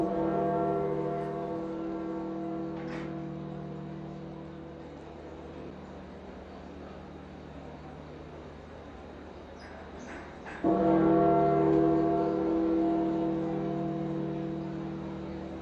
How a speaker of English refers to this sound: And we're going to continue our coverage of the death of Pope Francis, which was announced this morning. It was marked by the tolling of the bells in St. Peter's Square.